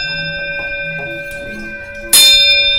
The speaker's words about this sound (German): Da drüber ist eine kleine Glocke aus der Schweiz